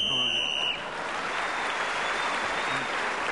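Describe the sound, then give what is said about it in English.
A steady, shrill whistle blast on a panel game show sounds for under a second as Clement Freud is speaking, gaining him an extra point. It then gives way to loud, sustained applause from an audience that continues to the end. “Clement Freud was again speaking as the whistle went, gained that extra point and has increased his lead.”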